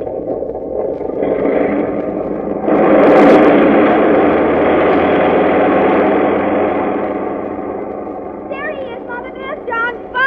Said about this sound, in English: Well, just as you say, dear, but I must admit that the roar of those motors always makes me a bit nervous.